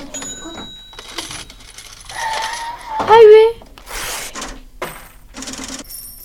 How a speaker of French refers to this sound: C'est en fin de compte des machines à sous, on va dire, ou des machines de magasin. Caisse enregistreuse. Caisse enregistreuse, voilà.